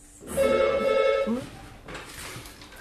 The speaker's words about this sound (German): Das Telefon klingelt.